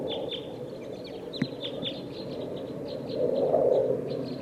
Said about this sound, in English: I think there's a flock of type 2 birds here in the top of this pine tree.